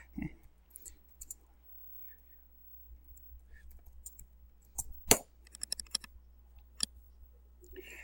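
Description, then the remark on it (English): Quiet, irregular tapping on a computer keyboard, scattered clicks coming in short bursts with one sharper clack partway through, and no one speaking. “God, I wish I had learned to type better in school.”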